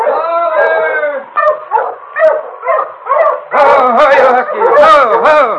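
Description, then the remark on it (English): A sled dog team approaching from up the trail howls, yips and barks together, loud, the overlapping cries growing busier and more excited toward the end. “he heard another dog team approaching from up trail.”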